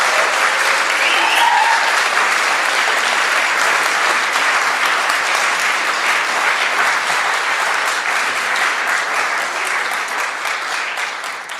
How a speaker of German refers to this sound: Und ich bitte Sie mal mit einem warmen Applaus hier vorne willkommen zu heißen.